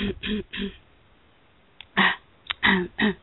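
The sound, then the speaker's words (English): Someone clears their throat in a series of short, rough bursts—three quick hacks, a brief pause, then several more harsh rasps in quick succession. “Let me clear my throat.”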